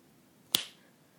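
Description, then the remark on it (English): A single crisp finger snap, sharp and bright with a quick fading tail, standing alone against near silence with no voices. “Every time you hear me snap my fingers, your cock is going to twitch, tense in pleasure.”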